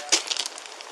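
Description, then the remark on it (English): A police officer knocks on the locked basement windows of a house: one sharp rap on glass followed by a quick run of lighter taps, fading, with no voices. “He knocks on the basement windows, which are locked up tight.”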